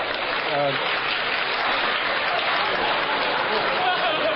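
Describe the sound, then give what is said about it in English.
Steady, dense applause from a large game-show audience for a contestant fills the whole stretch, loud and continuous, with a brief voice calling out near the start. “I'm sorry, next contestant, the applause was not for you. It was for the first contestant.”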